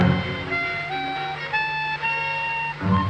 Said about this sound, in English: Come, soldier, play your trumpets, please.